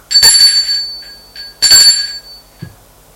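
A doorbell at the concierge's apartment door in an apartment building rings twice, each bright metallic ring sustaining and fading, with faint ticks between them and a soft low thud at the end. No one speaks.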